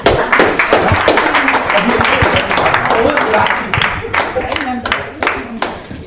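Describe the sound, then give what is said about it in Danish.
An audience breaks into sustained applause at the close of the last public meeting before the referendum on the EU opt-outs, recorded 29 November 2015. Many hands clap in a dense, steady patter that stays loud for several seconds, with murmuring voices mixed underneath. “Kan vi give en klap?”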